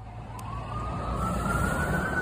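A distant FDNY (Fire Department of New York) ambulance siren in New York City wails steadily, its rising tone sweeping slowly upward over a low rumble of city traffic, with no voices present.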